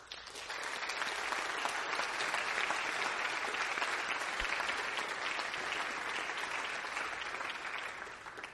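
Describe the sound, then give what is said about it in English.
A large audience of students at a ceremony for the incoming class of 2022 claps steadily for several seconds to thank those who supported them, a dense, sustained wash of applause that swells in quickly and tapers slightly at the end, with no voices rising above it. “If you have been the benefactor of love and support and hard work of others so that you can be here today, let's take a moment to thank them with a symbol of applause.”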